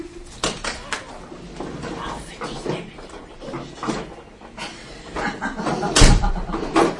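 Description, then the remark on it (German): A door shuts with a solid thud about six seconds in, preceded by softer knocks and shuffling, with people talking faintly in the background. “Ihr müsst jetzt mal hier die Tür zumachen.”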